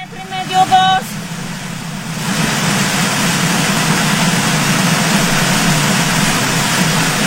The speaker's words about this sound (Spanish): El ruido de fondo es el sonido de la fuerza del agua que arrastra a los vehículos, está tumbando los muros y esta persona desesperada desde el balcón.